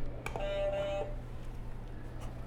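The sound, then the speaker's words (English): A buzzer button is pressed: a short click, then a steady electronic beep lasting about half a second, over a low background hum with no talking. “Hit another buzzer.”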